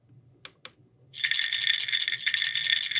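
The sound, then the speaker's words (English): Part of a new alarm tone meant to signal a problem with a patient's medication: two quick clicks, then a pill bottle rattles steadily and briskly for about two seconds, a bright, dense shaking of small hard pills with no voices. “Right, the sound of the pill bottle kind of cues medication in your head”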